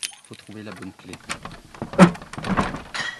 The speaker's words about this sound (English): Opening the door to a small building he shares with a local potter